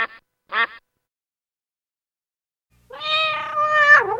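A cat meows once in a long, drawn-out call with a wavering, bending pitch, preceded by two short, nasal, quack-like calls and a pause of silence. No one speaks.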